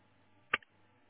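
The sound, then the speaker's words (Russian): A single sharp click of an internet cable plug snapping into its socket on a router, crisp, followed by a faint tiny second tick, against a quiet background. “Так, теперь ставить до щелчка.”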